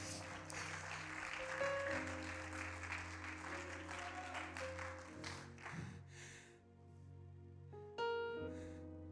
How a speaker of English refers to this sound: Clap your hands, church.